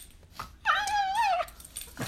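A dog named Sammy lets out one drawn-out, high-pitched whimper lasting under a second, its tone wavering and sliding down at the end. It is fairly loud, with no talking.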